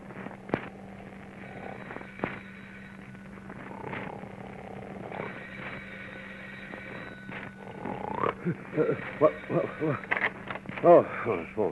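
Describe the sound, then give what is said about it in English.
A man sound asleep in bed in his bedroom at home, mouth open, snores energetically in rasping, rhythmic bursts over a steady low hum, the snores growing louder and more throaty toward the end. “His mouth open, he snores energetically.”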